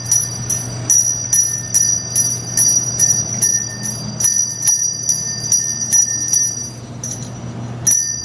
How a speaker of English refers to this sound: This is a familiar sound during the holiday season. Red kettles and bell ringers are located in front of grocery and retail stores as the Salvation Army raises funds through Christmas Eve to help needy families.